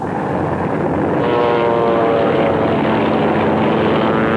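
A loud, steady propeller airplane engine drones throughout, with a rough buzzing roar that swells slightly partway through. No one speaks.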